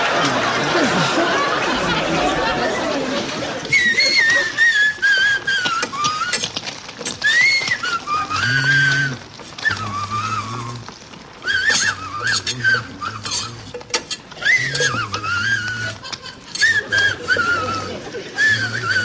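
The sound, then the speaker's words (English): A person whistles a wandering tune, the theme song from a science fiction western film, bright, with sliding pitched notes and short pauses between phrases, over a low hum and faint background bustle. “Would you knock off the whistling that's bothering me?”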